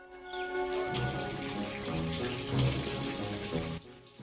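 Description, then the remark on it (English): Water drips and trickles from the ceiling of a dark mine tunnel in a steady, busy patter, over a low sustained tonal drone that holds throughout before cutting off near the end. “Water drips from the ceiling.”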